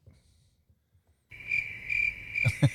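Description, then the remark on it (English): After a moment of near silence, crickets abruptly start chirping in a steady, high, continuous trill, fairly loud, with a few sharper pulses near the end and no one speaking. “What have you got crickets for”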